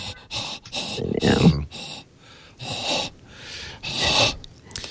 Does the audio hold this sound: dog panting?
yes